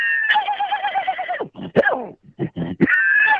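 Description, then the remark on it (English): A person's voice imitates a horse whinnying, a loud, quavering neigh with shaky pulsing tones, broken snorts and breathy bursts, then a final rising whinny. “what's the most difficult animal to imitate? It's the horse.”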